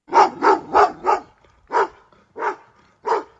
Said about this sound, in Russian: Во дворе деда Степана вдруг хрипло, с надрывом залаяла собака.